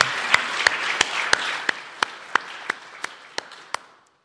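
A small group applauds, a dense patter of clapping punctuated by sharp, evenly spaced louder claps, gradually thinning and fading out after about four seconds, clapping to celebrate an announced birth of a baby girl.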